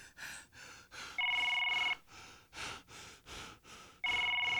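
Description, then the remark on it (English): A telephone rings twice through the line on an outgoing call, each warbling ring lasting under a second, steady and fairly loud, with quick, rhythmic breaths or gasps filling the gaps between rings. “Hope this nigga pick up the phone. Pick up the phone, son.”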